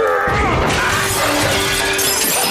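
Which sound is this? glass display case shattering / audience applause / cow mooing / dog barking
glass display case shattering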